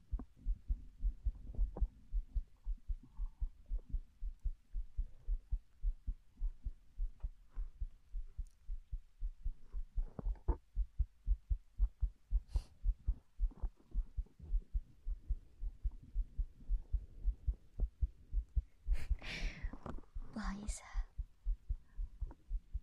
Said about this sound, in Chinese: 我的心跳很快吗？小时候，每次我害怕，我妈妈都会这么做。她说，心跳声会让人安心下来。